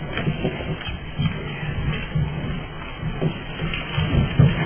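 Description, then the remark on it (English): A person getting up out of a chair during a presentation, with soft shuffling, rustling and creaking movement noises that continue steadily for several seconds, with no one talking. “So I used up at least 10 seconds getting out of my chair.”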